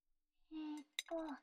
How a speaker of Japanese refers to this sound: 食器片付けちゃうから、あなたは先に寝室に行っててね。